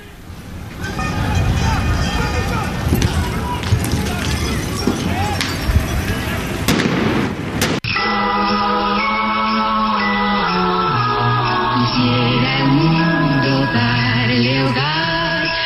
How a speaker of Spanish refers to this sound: La situación crítica de Grecia ha provocado una violenta huelga general. Los manifestantes responden a la represión policial con petardos, piedras y cócteles Molotov.